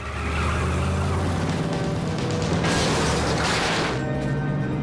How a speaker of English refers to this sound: Madeline swings the van off onto the closed road and smashes through the gate.